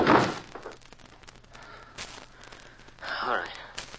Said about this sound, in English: Then you drag him in and kick the door shut.